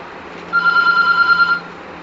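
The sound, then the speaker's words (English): A telephone rings once in a single steady electronic trill lasting about a second, fairly loud, over a quiet background hum, with no one speaking. “just remove that phone and keep it down.”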